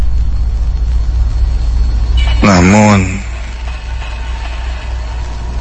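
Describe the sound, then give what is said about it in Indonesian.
An air conditioner's steady, low hum drones on in a bedroom at night without letup, even though the electricity has gone out, briefly overlapped by a single spoken word partway through. “suara dengungan Nasi itu masih terdengar sangat jelas.”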